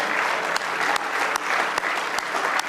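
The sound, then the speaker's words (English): An audience claps hands in praise in a dense, continuous roar, with steady sharp accents landing about every half second as the crowd keeps a loose, unified beat. “Give him one more good hand clap of praise if you love him tonight.”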